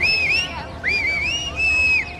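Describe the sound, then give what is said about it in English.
In the opening of the film The Secrets We Keep, set in a 1950s U.S. suburb, a man in a park whistles a short, wavering tune in three clear phrases, calling his dog, his high pure tone gliding up and down over a soft murmur of background noise. “A man whistles to his dog, and the only person who notices is a woman named Maya in the park with her son.”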